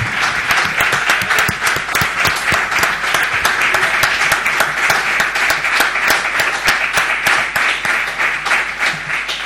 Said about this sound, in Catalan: al que també li hem de fer un gran aplaudiment, sisplau.